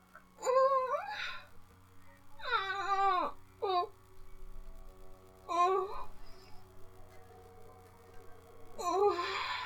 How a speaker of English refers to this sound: Whimpering noises in the background.